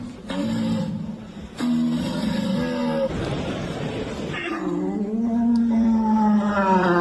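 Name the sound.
red deer stag bellowing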